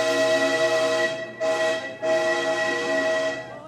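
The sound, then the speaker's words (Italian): An arriving Naples–Milan train sounds a loud horn in three sustained blasts, the first and last long, the middle one short, at 6 in the morning, with no voices present. “Arriva il treno, Napoli-Milano, quasi 800 chilometri. Sbuffa il treno!”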